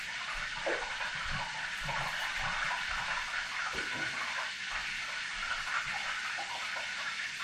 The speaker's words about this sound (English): aggressively bubbling. I don't know if you can hear that. I think that it scares me how much it's bubbling. It really does.